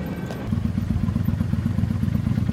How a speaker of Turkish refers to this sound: Aydın motosikletiyle yol alıyor.